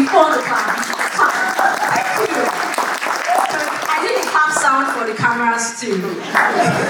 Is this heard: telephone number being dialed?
no